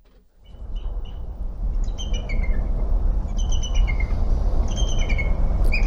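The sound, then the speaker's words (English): Thin, sharp chirping calls from an immature bald eagle come in short repeated bursts, clear, over a steady low rumble of wind or outdoor noise. “Just that little sharp chirping almost.”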